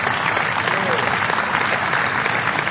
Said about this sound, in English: You're clapping. Your hands are for you. And you're not paying to clap.